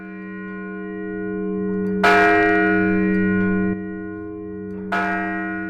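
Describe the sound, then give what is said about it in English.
At the annual Martin Luther King Jr. Day bell ringing in Peaks to Plains Park, Montana State University Billings, the large Peaks to Plains Bell rings out with sustained, resonant tones, struck twice about three seconds apart, each strike blooming loudly, then humming on in a long, slowly fading ring, with no talking. “The day began with a short remembrance ceremony and the annual bell ringing at MSU Billings Peaks to Plains Bell in the Peaks to Plains Park in the northwest part of campus.”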